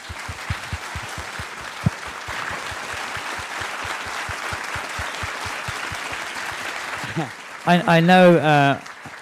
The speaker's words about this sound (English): Yeah, sadly Robbie passed a few days ago. For those of you who don't know, he played Hagrid. We should take a moment to raise our wands and have a little applause, I think.